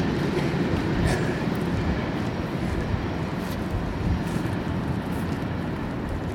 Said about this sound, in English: Just a noisy train to record. There it goes.